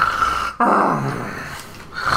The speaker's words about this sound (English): Young noble woman whose, you know, dress is all torn up and rolled around in mud and everything, and she is still sleeping. Yeah. And snoring loudly.